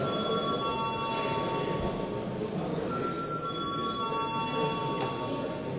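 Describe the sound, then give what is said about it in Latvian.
A parliament voting bell rings continuously for several seconds, a steady, bright metallic buzzing tone at an even loudness with no speech over it. It is rung before a vote on the fifth proposal by the minister for children and family affairs. “Lūdz zvanu.”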